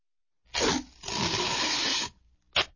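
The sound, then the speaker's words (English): Tape is pulled off a roll in a short rip, then a longer steady tearing pull for about a second, followed by one quick final rip. The sound is bright and noisy, with no voices. “Tape.”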